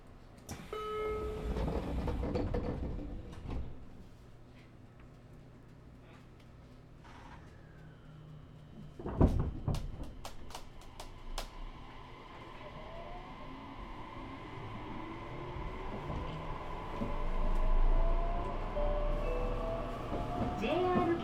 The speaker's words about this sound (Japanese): ご利用くださいましてありがとうございます。この列車はワンマン熊本駅です。